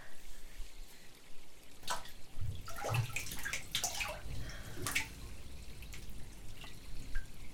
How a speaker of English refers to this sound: All right, if you insist, I'll take off my robe and enter the water.